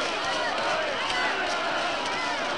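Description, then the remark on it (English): An angry mob, led by police, shouts and roars together as it arrives at the barred door of a warehouse, a dense, loud wall of overlapping voices that holds steady without pause from start to finish. “Led by police, the crowd arrives at the barred door.”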